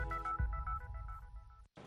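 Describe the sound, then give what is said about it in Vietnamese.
A telephone in Times Square, New York, rings with a bright electronic warble, its tones pulsing in quick repeated bursts over a low background hum, steady before a brief cutoff near the end. “Nếu đang lang thang ở quảng trường thời đại và nghe tiếng chuông điện thoại reo nên tôi bắt máy.”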